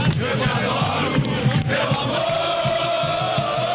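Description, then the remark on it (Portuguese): A large crowd of Corinthians (Timão) supporters chants in unison that they will sing for Timão to win, a loud, dense wall of voices with a steady rhythmic pulse and a rising sustained tone toward the end, no single voice standing out. “a torcida do Timão costuma cantar forte, cantar alto, dizendo que vai cantar para o Timão ganhar.”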